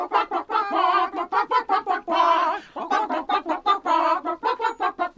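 Chicken clucks arranged into a bouncy, rhythmic tune by the Greater Allentown Chicken Orchestra as a special number for Hebrew listeners, with quick repeated clucks broken up by longer drawn-out squawks, loud with no talking.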